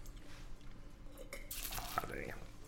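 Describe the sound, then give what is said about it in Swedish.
Wine is poured out in a steady splashing stream that starts partway through, its gurgle shifting in pitch as it flows, over a faint background murmur. “Det känns så tråkigt att hälla ut, men vi måste, båda två ska köra lite senare.”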